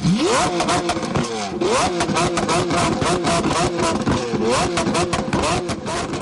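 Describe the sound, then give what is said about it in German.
A car engine revs hard and loud at night in the streets, its pitch climbing in several repeated surges over a constant rumbling, clattery roar. “Während der Corona-Krise sind vor allem in der Nacht Autofahrer mit aufhüllenden Motoren durch die Strassen gefahren.”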